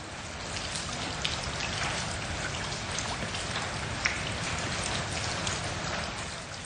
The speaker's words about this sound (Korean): 빗방울이 제법 떨어지는구나. 그래서 놀랐을 뿐이야.